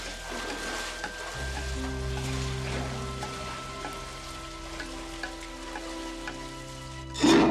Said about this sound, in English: This is like a central, what do you call it? Sewer? Yeah. Water comes in up there. Yeah. Sea water from the bay fills this room. Then they diverted through all these pipes to different chambers.